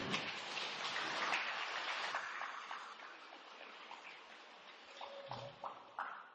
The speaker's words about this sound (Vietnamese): Hai ngày nay đều cứ trời mưa âm u, cũng có điểm tốt.